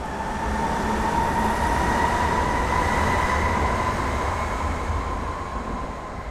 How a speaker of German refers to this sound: Berliner U-Bahn Gisela.